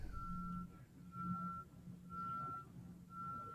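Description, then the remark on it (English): Four steady, evenly spaced electronic beeps from a vehicle backing up over a low engine rumble, with no voices. “Who's backing up?”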